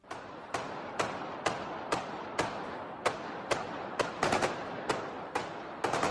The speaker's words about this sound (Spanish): Estamos escuchando las ráfagas con armas automáticas que se han utilizado en este tiroteo. El gobierno ruso habla de ataque terrorista.